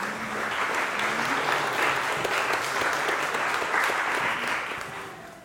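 A crowd claps steadily in a dense, sustained round of applause that holds strong for about five seconds before tapering off at the end.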